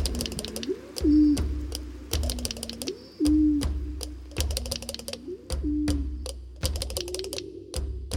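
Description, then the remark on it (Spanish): A pigeon coos in a steady series of low, rolling phrases, fairly loud, while sharp clicking taps sound repeatedly over it. No one speaks. “Y esta le dijo a la Rabiche: tranquila, paloma, tu huevo está a salvo”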